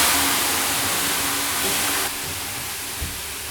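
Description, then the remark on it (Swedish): Water splashes onto hot sauna stones, releasing a loud, steady rush of hissing steam that eases to a softer hiss partway through. No voices are heard. “Det där kallas något på finska när man häller vatten.”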